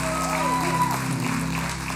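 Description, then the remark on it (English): An audience claps steadily for two families, two men and their wives, called up front: a dense, continuous wash of applause at full level throughout, with a faint murmur of voices and a sustained tonal hum underneath. “Come on, let's give these guys a hand clap, these two families.”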